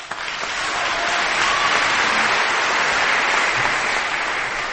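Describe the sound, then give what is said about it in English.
A large audience applauds the speaker's parents, clapping steadily for several seconds. The dense, sustained wash of applause swells quickly and holds at a fairly loud, even level without any voices on top. “Please join me in a round of applause for our parents.”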